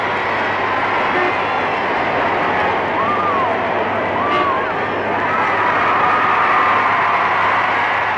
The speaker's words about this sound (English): And now once again, it's the bride and the bridegroom left there on the balcony, waving to the crowd, waving their hands high in the air and receiving a tremendous reception, a great ovation from this delighted multitude.